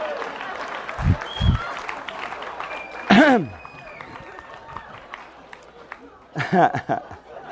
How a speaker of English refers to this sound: The ladies applaud for that one.